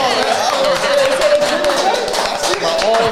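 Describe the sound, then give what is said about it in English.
A crowd applauds steadily for about three seconds, dense overlapping claps at an even, fairly loud level, with a voice or two calling out over the clapping. “You going to clap it up for that?”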